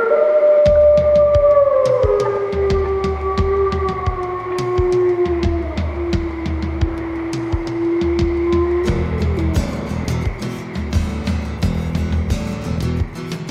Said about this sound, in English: At night they howl at the moon.